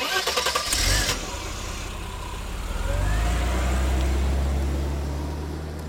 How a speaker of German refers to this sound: Sie liefen dann beide in ihr Zimmer, um die Kleidungsstücke, die Tante Monika erwähnt hatte, zu holen und liefen zum Auto. Sie fuhren wieder den Bach entlang bis zum Häuschen von Onkel Eduard.